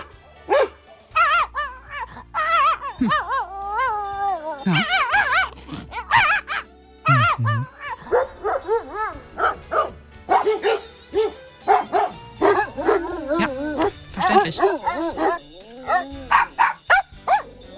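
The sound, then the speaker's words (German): Several dogs bark and yip excitedly in quick, overlapping bursts, loud, with a few higher whining yelps mixed in, keeping up a near-continuous clamor for the whole stretch. “Also für alle, die nicht hundisch sprechen, Sascha, übersetz mal bitte.”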